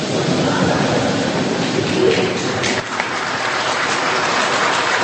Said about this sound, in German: Ein breites Lächeln der beiden Präsidenten. Das Publikum im Saal erwidert es mit spontanem Lachen. Dann brandet Applaus auf.